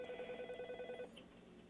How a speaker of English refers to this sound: And my other phone's ringing. Y'all ignore that. Okay. Here, let's wait till this stops. Very popular on a Sunday morning. We'll just wait till it stops. All right. Stupid phone.